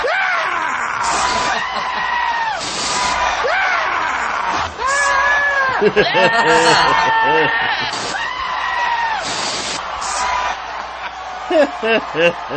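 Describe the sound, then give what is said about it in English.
Sheep bleat loudly and repeatedly throughout, their wavering cries overlapping in quick succession, mixed with what sounds like shouting and a noisy crowd, in a played recording of a Howard Dean campaign speech edited with bleating animals. “Just in case anybody wanted to know, that's the sheep.”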